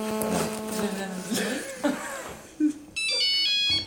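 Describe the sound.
A phone's electronic ringtone starts loud near the end with a bright, steady trilling tone, after voices talking and a brief chuckle.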